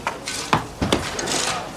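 Knocking into a partition wall as a worker makes a hole in it, with a few sharp, irregular blows amid a constant gritty scraping and crumbling, like material being chipped and broken away. No one speaks.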